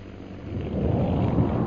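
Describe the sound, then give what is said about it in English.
A bomb explosion, Holbrook's second bomb, booms as a deep, rolling rumble that swells louder after a moment and keeps roaring through to the end, with no voices. “That explosion we just heard was Holbrook's second bomb.”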